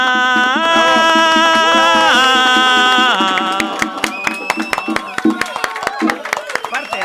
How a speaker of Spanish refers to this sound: A ver las palmas.